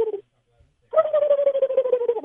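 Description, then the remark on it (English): A male phone caller imitates a turkey gobble: a brief vocal note, a short pause, then a long, rapid, warbling burst of throaty pulses at a mid pitch, loud and alone. “let's hear your gobble, my man.”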